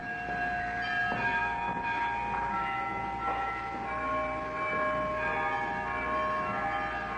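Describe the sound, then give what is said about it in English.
Church carillon bells in Sitka ring out a slow melody, played rather than just rung, believed to be by John Williams or his nephew Philip Williams, with successive strikes blending into long, overlapping resonant tones over a steady background hiss; a historic recording preserved by the National Park Service. “It's believed to be John Williams, or perhaps his nephew Philip Williams, the last in several generations of his family who did not just ring the bells, but played them.”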